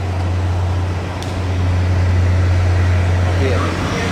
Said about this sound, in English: That's a little loud now with the buses